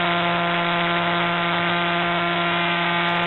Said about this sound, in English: So this pulsar points towards the Earth. We see this little burst of radio waves, and this one rotates 1.4 times per second. Do you see the knocking?